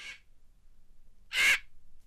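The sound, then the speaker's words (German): A carrion crow gives a single harsh, rasping caw, with the tail of an earlier call fading at the start, set against quiet outdoor background with no one speaking. “Genau, das war eine Rabenkrähe.”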